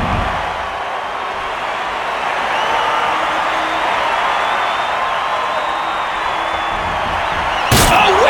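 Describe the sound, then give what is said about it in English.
A roaring arena crowd fills the air, then near the end a single sharp, loud crash rings out as Edge and Christian smash steel chairs together on a wrestler's head on SmackDown, cutting through the steady crowd noise. “Concerto by the Originators.”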